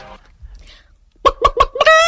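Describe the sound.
A person imitates a clucking hen: after a brief quiet murmur, four quick, loud clucks in a steady rhythm, then a drawn-out squawking call.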